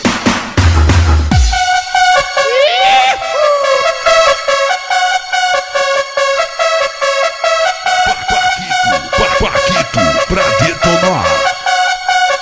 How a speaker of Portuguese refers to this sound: Olha as cornetas aí. Fala aí, corneta. Fala aí, fala aí.